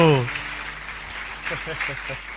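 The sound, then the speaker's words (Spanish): An audience applauds for the Lord with steady, dense clapping that fills the whole stretch, while voices call out briefly at the start and again partway through over the noise. “Dale ese aplauso al Señor, así rompemos ese hielo.”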